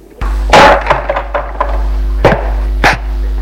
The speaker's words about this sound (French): Et il ferme la porte.